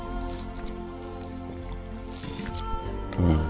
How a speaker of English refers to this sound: Let me take a drink of water here.